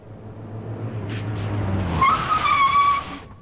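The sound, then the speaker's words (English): A red sports car's engine roars and revs, then its tires let out a long, shrill skidding squeal as it turns back and drives straight at people in another car, loud with no talking. “All the way, a red sports car followed them. Then suddenly it passed them, turned back, and drove straight at them.”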